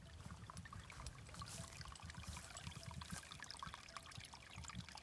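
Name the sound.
water trickling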